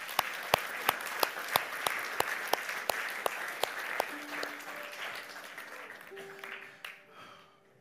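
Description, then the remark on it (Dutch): A church audience applauds people who raised their hands and came forward, with sharp rhythmic claps cutting through a dense wash of clapping for about four seconds, then the applause thins and fades while faint steady tones hum underneath. “Zullen ze applaus geven, lieve mensen?”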